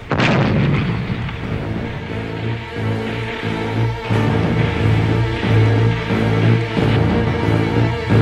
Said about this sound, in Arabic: صدى الانفجار كان مهيبا فسد علي سمعي لدقائق. امتلأ المكان بالدخان الأسود الكثيف.